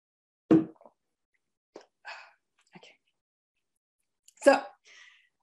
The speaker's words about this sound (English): And you're all waiting for me to say the answer, but I'll just take a sip of water.